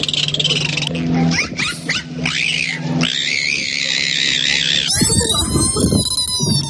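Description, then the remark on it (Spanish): Bottlenose dolphin vocalizations: rising and falling high whistles and squeaks overlapping one another, then a dense, raspy burst of rapid clicks and buzzing pulses, loud, with no talking. “¿Verdad que es difícil saber si son delfines o una ejecutiva del PSOE, por ejemplo?”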